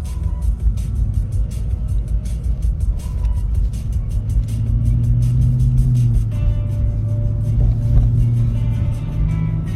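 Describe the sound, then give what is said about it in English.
A car with a Hemi engine rumbles low and steady, its pitch climbing and falling as it revs a few times through the second half, with faint ticking noise layered on top. “Warmed up to the car at all?”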